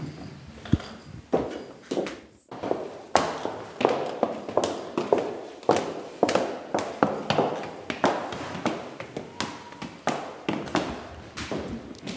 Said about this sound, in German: Ja, da gehen wir in die zweite Etage, gehen wir aus dem Erdgeschoss nach oben in unserem wunderschönen Treppenhaus in die zweite Etage und da gehen wir ins Sprachlabor.